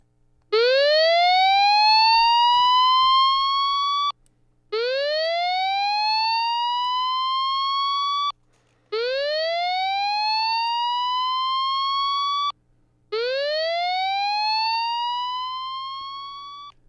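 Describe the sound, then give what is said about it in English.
A new tsunami warning siren in Kodiak is tested. It sounds alone in four loud, long, electronic rising sweeps, each tone climbing from low to high over about four seconds before cutting off briefly and starting again. “Some neighborhoods will get to hear a test of the new siren. Here's what that sounds like.”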